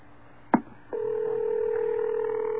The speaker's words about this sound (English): His phone is ringing.